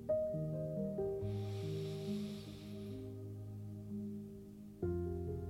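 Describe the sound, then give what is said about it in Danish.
A slow, deep breath, the second of three in a guided meditation on letting go of a regretted past event, rises as a soft airy hiss for a couple of seconds, then fades, over calm sustained ambient music tones. “Anden vejrtrækning.”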